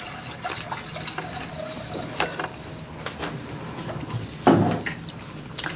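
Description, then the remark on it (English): Water is poured into a container, a steady splashing trickle with scattered small clinks and a louder gush of liquid near the end, with no one speaking. “All right, this is water. And we're going to pour some right in there.”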